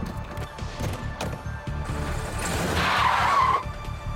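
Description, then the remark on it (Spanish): A stolen car's engine revs hard as tires squeal sharply against the pavement of a hotel parking lot, building to a loud, drawn-out screech before the car speeds off and the noise cuts away. “Se alejaron a toda velocidad.”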